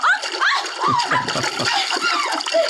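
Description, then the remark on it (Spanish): A loud splash of a small person being thrown into water, followed by churning and splattering, with excited voices calling out over it. “Calimán arroja al pequeño Solín al agua”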